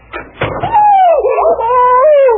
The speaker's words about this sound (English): Oh, Mrs. Chatsworth, I'm so sorry. I had no idea you were right outside the door. Are you hurt? Oh, my nose.